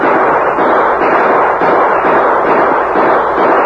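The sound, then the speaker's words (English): A loud, dense barrage of gunshots, the shots running together into a continuous crackling roar that fills the whole stretch with no voices. “What that shooting was about?”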